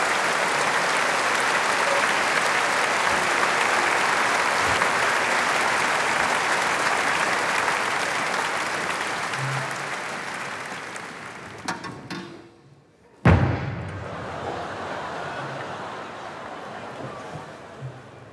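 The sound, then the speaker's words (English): A crowd applauds loudly for a blacksmith from Venezuela who can read notes, in a dense, steady roar of clapping that fades after about twelve seconds, followed by a brief hush and some quieter voices and stray sounds. “Give him an enormous applause from Venezuela,”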